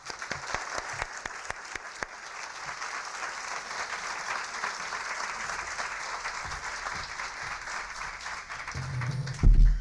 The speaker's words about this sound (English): let's have a big round of applause